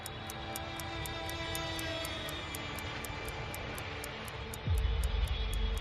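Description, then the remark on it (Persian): A loud, steady airplane engine roar as Rockefeller's aircraft comes in to land at the airport of Panama's capital, ending in a sudden deep rumble like wheels touching down. Faint rapid ticking runs throughout, and no one speaks. “وقتی هواپیمای راکفلر به فرودگاه پایتخت پاناما رسید”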